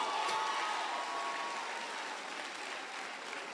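audience clapping

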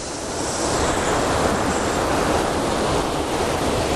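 river water flowing outdoors

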